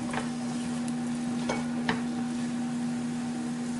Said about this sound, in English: There we go. We're going to drop this in. We're going to turn the heat. I've already turned the heat off. Just going to put all this in. Give it a quick stir.